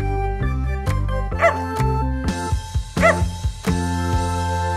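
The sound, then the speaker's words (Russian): A dog named Gav-Gav gives two short, bright barks about a second and a half apart, heard over steady background music with plucked and sustained notes. “Кажется, собачка Гав-Гав хочет сказать, здесь чего-то не хватает.”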